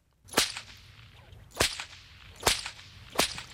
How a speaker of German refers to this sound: eine Peitsche, ja